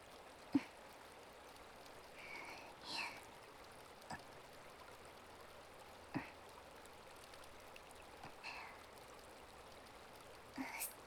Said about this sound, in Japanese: 研いだばかりの鉄臭さとか熱とかを川の水で流してるんですよ。